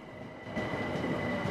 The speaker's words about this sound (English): A modern train pulls into Hackney Central Station.